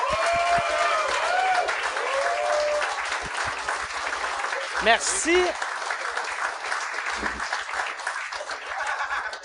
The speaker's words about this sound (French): J'aimerais ça qu'on leur donne une bonne main d'applaudissement.